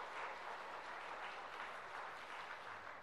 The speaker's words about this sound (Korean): 우리 박수 한 번 더 하겠습니다. 감사합니다.